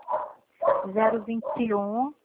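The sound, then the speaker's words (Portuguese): A dog barks several times in quick, uneven bursts, the last bark stretching into a longer, wavering yowl before stopping abruptly. “Nossa, meu cachorro, meu Deus.”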